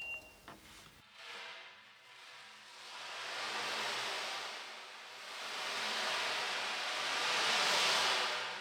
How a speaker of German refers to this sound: Irgendwo im weiten Ozean schlagen die Wellen gegen eine kleine Insel.